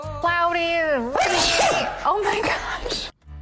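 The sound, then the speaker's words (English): A loud sneeze: a drawn-out, rising vocal 'ahh' intake bursts into a sharp, noisy explosion, followed by a few strained voiced sputters before it cuts off. “That's even more than just a sneeze.”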